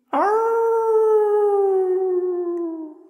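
A wolf lets out one long, drawn-out howl lasting about three seconds, strong and steady, with its pitch sinking gradually toward the end. No other sounds or voices accompany it.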